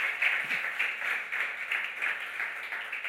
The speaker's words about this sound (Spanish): ¿Qué tal si le dan otro aplauso al nombre del Señor, por favor?